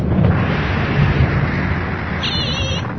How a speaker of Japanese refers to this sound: 雷だ、怖いよ怖いよ。